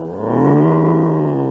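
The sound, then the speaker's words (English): A person growls out a loud, sustained roar in imitation of a tiger, one long rough call lasting over a second with no words spoken. “I'm a roaring tiger.”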